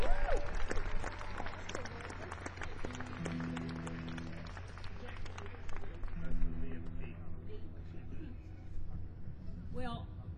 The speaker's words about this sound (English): Inducted into the West Virginia Country Music Hall of Fame, and I think she deserves a round of applause for that.